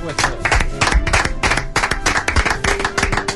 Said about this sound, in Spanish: Y hoy recibimos con un aplauso, ¿no?, a este torero,